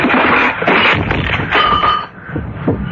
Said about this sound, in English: Hey! What are you doing? Why are you pulling the clock away from that? Hey, look out! It's falling!